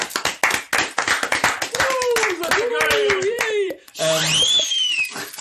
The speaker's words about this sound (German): Dafür vielleicht nochmal ein kleiner Applaus.